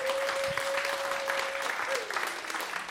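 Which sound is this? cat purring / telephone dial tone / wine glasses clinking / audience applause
audience applause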